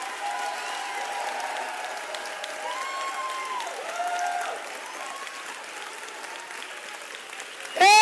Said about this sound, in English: Somebody clap your hand to Jesus. Come on, clap your hand to Jesus.